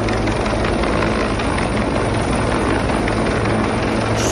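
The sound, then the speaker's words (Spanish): Loud, steady rotor noise of a rescue helicopter evacuating a man from among the cliffs in Sierra Helada Natural Park, Benidorm: a dense continuous whir with a low pulsing thump, unbroken throughout, with no voices. “Sonido del vídeo que ya tienen en nuestra web radiobenidorm.es, y donde se ve cómo el helicóptero conseguía evacuarlo entre los acantilados”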